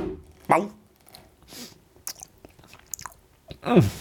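Crunchy biting and chewing of a spritz cookie: a sharp bite at the start, scattered crackly chews, then a louder crunching bite at the end, with no speech over it.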